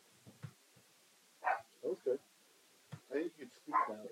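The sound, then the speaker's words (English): Dogs bark in short, irregular bursts, a few sharp yips and woofs bunched together with brief pauses between them, moderately loud. “Hey, dogs, you really gotta settle down.”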